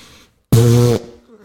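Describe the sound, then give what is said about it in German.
A loud, buzzing raspberry blown with the lips mimics a fart, a single half-second burst with a steady low drone, followed by a faint murmur. “Ich würde jetzt gerne furzen, aber ich kann gar nicht.”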